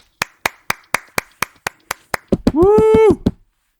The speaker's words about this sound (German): Applaus. Sehr Applaus. Das war der Applaus.